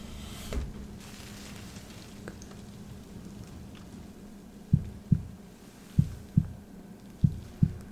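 heartbeat

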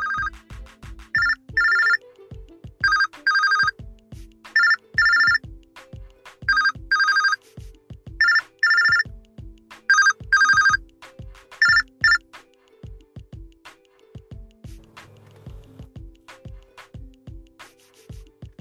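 phone ringing

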